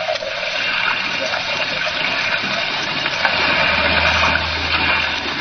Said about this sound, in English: I must say the whole trip seems utterly ridiculous to me. Plunging and bobbing about in a little boat in a raging torrent